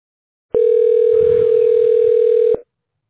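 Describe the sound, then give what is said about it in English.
A single steady electronic ringing tone on a Google Voice phone call, holding one even mid pitch for about two seconds before cutting off, with faint background rumble partway through and no talking. “Yeah, it's ringing.”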